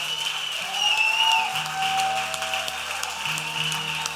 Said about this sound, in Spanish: ¿Alguien puede levantar un aplauso al nombre del Señor aquí?